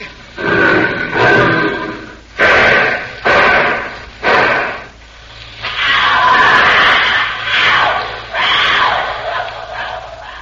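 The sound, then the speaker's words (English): A tiger screams: loud, harsh rough bursts, then a long, ragged, wavering cry that slowly fades. “that scream was like nothing human. It wasn't human. That was our tiger.”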